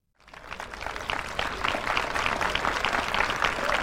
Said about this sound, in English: … comes off the hill to a round of applause, takes his top hat off, doffs it to the crowd, says thank you, the last time we believe that he will be in this ceremony.